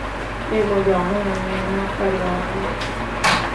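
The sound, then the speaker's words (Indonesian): Voices murmur for a couple of seconds, then a single short, sharp bump near the end as a door is pushed shut. “Tunggu ya. Tutup pintu dulu.”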